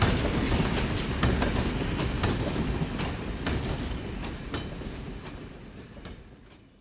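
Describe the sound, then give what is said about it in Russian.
A steam locomotive rushes through a station in snowy weather, whirling up snow, a loud, steady roar cut by rhythmic clacks of wheels over rail joints, then slowly fades as it passes. “Паровоз с размаху налетел на станцию.”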